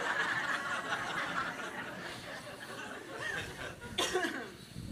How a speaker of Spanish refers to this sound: Ayer comentábamos que es la tosecita. A ver cómo me responde.